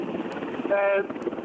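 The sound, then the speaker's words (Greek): Strong wind roars steadily into the microphone beside four French helicopters that will carry the president and his escort, mixed with a low engine-like rumble, while a voice briefly breaks through partway in. “Πες μου πάλι τα βρούνε, γιατί δεν σε άκουσα, έχει πάρα πολύ φορά.”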